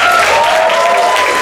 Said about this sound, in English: Let's hear a round of applause from the audience.